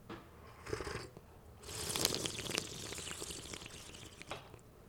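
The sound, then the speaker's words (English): Airy slurps of water drawn through the lips to aerate it during a tasting: a short hiss, then a longer, louder wet slurp, and a brief final one, with no talking. “So what we want to do is kind of divide this into three slurp.”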